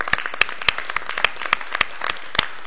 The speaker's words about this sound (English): so it's good to have him back and give him a round of applause for...